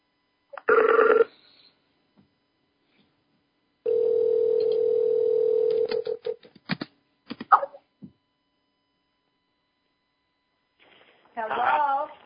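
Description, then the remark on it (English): A steady, sustained telephone tone drones for a couple of seconds while a phone call is being connected, framed by short bursts of electronic beeps and line noise, with brief muffled talk at the start and end. “So we'll just wait 1 minute, and hopefully we'll get connected with them on the phone.”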